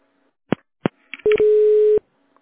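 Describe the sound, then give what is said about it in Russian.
On a call to the Petrosvyaz phone company's line, two sharp clicks are followed by a few quick electronic telephone tones, then a steady, buzzy dial tone that holds for under a second and stops abruptly. No one speaks. “Переведите ваш телефон в режим «Тана».”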